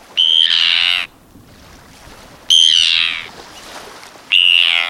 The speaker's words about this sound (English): Now listen to these Arctic terns.